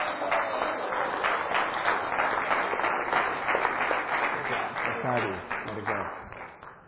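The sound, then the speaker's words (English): Sustained audience applause for young women called forward one at a time to receive gift cards, a dense, steady patter of many hands clapping at a fairly loud level for several seconds, with faint voices mixed in near the end as it begins to taper. “And so as I call these names of these young ladies, as they come forward, would you just applaud for them?”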